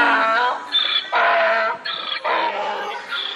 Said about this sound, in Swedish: Ja, det är en åsna.